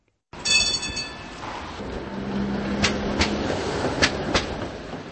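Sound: tram running on rails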